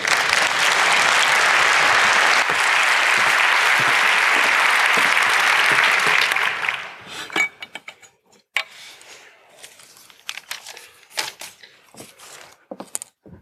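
An audience gives a warm round of applause to a performer being introduced. The clapping is loud, dense and steady for several seconds, then thins out into a few scattered, individual claps before fading to quiet.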